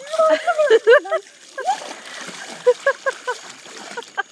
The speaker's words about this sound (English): So it's very, very cold because it comes from a well. Yes. So it's underground water. Yep. So it's really cold. And now I am putting my head under the shower.